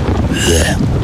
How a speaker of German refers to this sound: Ja, ja. Regen.